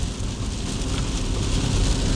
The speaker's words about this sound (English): I hope you guys can hear me because this rain is really battering down.